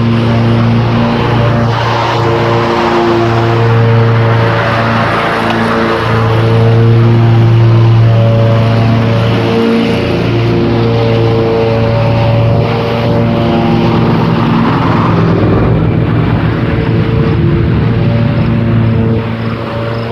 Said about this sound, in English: Lots of lawnmower noises.